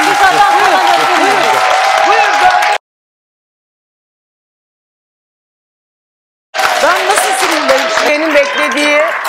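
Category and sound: crowd, studio audience applauding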